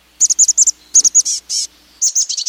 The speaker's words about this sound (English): But now listen to the chestnut-backed call. It's higher pitched, faster, and has a buzzy quality.